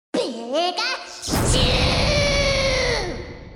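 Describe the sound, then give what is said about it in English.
The squeaky, high-pitched voice of Pikachu in the video game Super Smash Bros. chirps a few quick syllables, then lets out a long, loud cry over a crackling, buzzy burst, alone. “And imaginary, like Pikachu in Super Smash Bros.”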